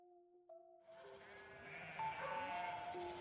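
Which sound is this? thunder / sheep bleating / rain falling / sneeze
sheep bleating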